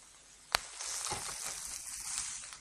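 Meat sizzles steadily in a hot pan, a broad hissing crackle, with a sharp clack near the start as the piece is turned, then continuous frying without talk.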